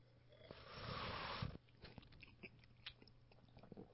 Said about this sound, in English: Okay, let's take a sip. Here we go.